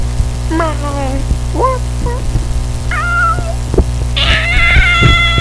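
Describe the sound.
A voice imitates a cat, giving several short, wavering meows one after another, ending in a higher, more strained meow, over a steady low hum.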